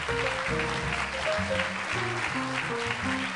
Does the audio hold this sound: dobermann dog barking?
no